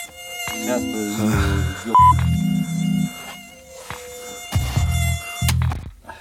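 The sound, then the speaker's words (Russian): A mosquito whines loudly near the microphone, its thin buzzing pitch wavering as it circles, with a few deeper, heavier bursts of wing noise as it brushes near. No one speaks. “Этот комар сраный, блядь, здесь уже третий день нахуй летает.”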